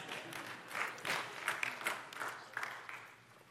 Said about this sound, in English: Sounds like a golf clap.